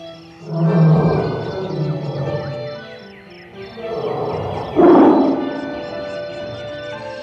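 A tiger's deep roar rises twice, a long throaty bellow followed by a second louder one after a short pause, full with no talking; the tiger roars up at the pale moon from a road beside grassland.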